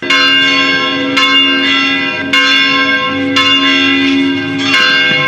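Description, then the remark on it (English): Church bells in Khartoum, Sudan, peal loudly and continuously as Christians celebrate Christmas, several bells striking in overlapping succession with rich, ringing overtones that sustain between strikes. No voices are present. “Church bells rang in Sudan's capital of Khartoum last week as Christians celebrated Christmas as a publicly recognized holiday for the first time in 10 years.”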